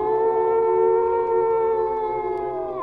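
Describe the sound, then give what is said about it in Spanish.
A single long, drawn-out howl holds a steady, rich tone for about three seconds, then dips slightly in pitch at the end. It is loud and alone, with no voices. “Un aullido en la oscuridad.”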